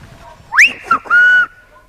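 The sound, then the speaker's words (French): A short phrase in the whistled language of La Gomera, saying "Welcome to La Gomera": a loud, piercing whistle that sweeps sharply upward, breaks briefly, then settles into a long, steady held tone, heard alone with no talking. “Par exemple, voilà comment on dit « Bienvenue à la Gomera ».”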